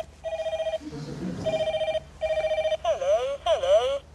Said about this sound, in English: When all of a sudden, your phone rings.